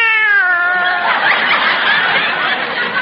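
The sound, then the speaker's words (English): A fat female cat that has already had its breakfast lets out a long, loud meow that slides downward in pitch, then trails into a raspy, breathy yowl lasting a couple of seconds, with no one talking. “The way this cat eats is a caution.”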